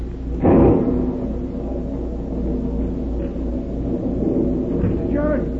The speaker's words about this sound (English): A real granddaddy of a lightning bolt hit the cliff just now right beside the burying ground. It opened up a big crack in the earth, running right across her grave.